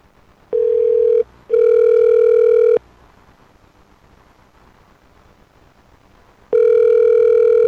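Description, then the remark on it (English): A telephone ringback tone sounds over a phone line as a call is placed on air: a steady electronic buzz in two close bursts, a few seconds of quiet line hiss, then the ring starts again, loud and clear. “Ringing on the air.”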